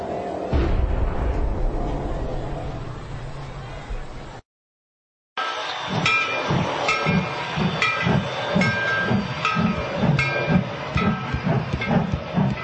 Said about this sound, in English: That was the last train. Last train till morning, sir.